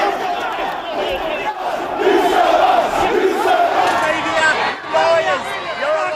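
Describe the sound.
Thousands of protesters at a violent demonstration in the streets of Sydney, Australia, defying a curfew, shout and yell continuously at a steady, loud level, many overlapping voices rising in angry bursts of chanting and cries throughout.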